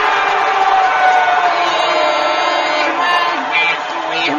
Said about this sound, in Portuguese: E numa fantástica coreografia, as 10 milhões de pessoas presentes batem palmas e dão petelecos nas orelhas umas das outras.